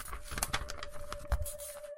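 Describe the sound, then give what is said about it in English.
Crisp crinkling and rustling of a paper, a set of instructions, being unfolded, with several sharp crackles and scrapes over about two seconds; a faint steady hum runs underneath, and no one speaks. “There's a paper here. I'm just going to grab it and unfold it.”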